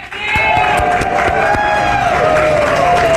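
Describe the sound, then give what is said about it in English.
A large crowd roars and cheers continuously outdoors on a breezy, chilly day in the upper 40s, a dense wash of voices with scattered claps and whoops, loud and sustained throughout. “What a great crowd today. Best of the week.”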